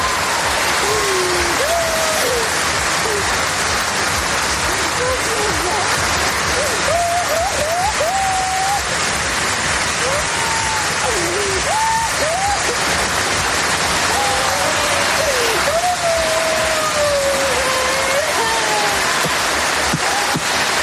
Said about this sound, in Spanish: Se fusionaban las lágrimas, los sollozos, los gritos, el llanto de Carolina con la ovación, los aplausos de un pabellón puesto en pie despidiendo a una número uno como Carolina Marín.